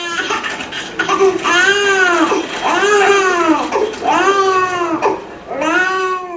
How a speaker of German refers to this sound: Ein dralles, wohlverpacktes, aber hungriges Baby beginnt auf dem Rücksitz zu schreien.